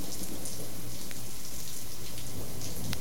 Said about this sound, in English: I'm just hanging out here in the rain at the train station, waiting for the train. It's something I do here on my days off in Portland.